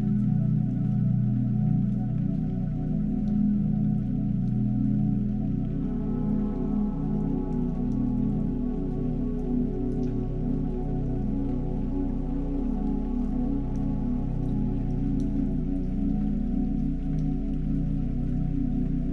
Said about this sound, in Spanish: Ahora centra tu atención en los sonidos de las olas del mar. Percibe la blanca espuma que se acerca y se aleja. Puedes escuchar cómo las olas rompen suavemente sobre la arena.